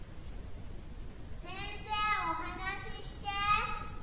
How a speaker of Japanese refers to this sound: 礼拝堂の方からは子供たちの賑やかな声が聞こえてきた。